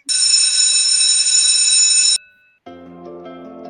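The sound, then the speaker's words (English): A college bell rings loudly with a steady, high, buzzing tone for about two seconds, stops briefly, then resumes at a noticeably lower pitch. No voices are heard. “Yep, that's our college bell.”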